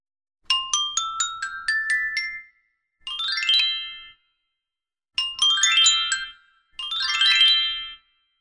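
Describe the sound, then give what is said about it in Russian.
A small bell rings in four bright bursts of tinkling, melodic notes separated by short pauses, clear with no voices. “А потом зазвонил колокольчик.”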